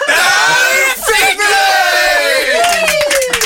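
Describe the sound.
A loud burst of spontaneous cheering from a morning show team, many voices whooping and yelling at once with sustained high-pitched shouts, some sharp clapping toward the end, continuous for a few seconds.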